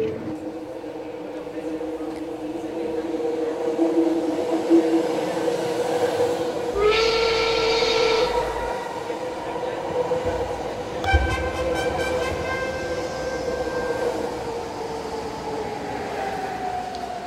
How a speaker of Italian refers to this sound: Perché infatti adesso stiamo dalle parti di New York. Quello che avete sentito era il suono della metropolitana di una stazione abbandonata sulla Bowery